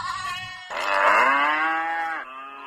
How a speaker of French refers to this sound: Moutons, chèvres, cochons, bœufs envahissent les artères, quartiers et lieux publics.